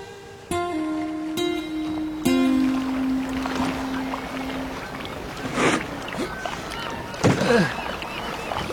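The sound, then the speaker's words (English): A boat out on the water: a steady low droning tone carries for several seconds, followed by a couple of sloshing splashes of water against the hull. “Is this your boat”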